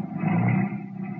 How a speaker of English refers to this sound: Then the car moved on.